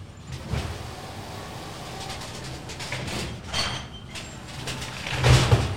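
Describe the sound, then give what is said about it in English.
A garbage truck works trash outside, recorded with three microphones pointed at it: a steady low engine rumble with scattered metallic clanks and hydraulic hisses, swelling into a louder, heavier burst near the end. No one speaks. “It's trash time. And all three of our mics are pointed at it now. So it's going to be even louder.”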